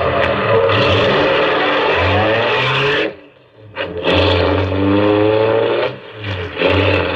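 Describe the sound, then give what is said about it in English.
A taxi's engine revs loudly and continuously, with rising and falling tones as the taxi pulls away and gathers speed, briefly easing off in the middle before surging again. “I heaved a sigh of relief as we pulled away.”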